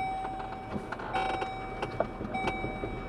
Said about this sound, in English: She jumps in their truck to drive out to their old barn.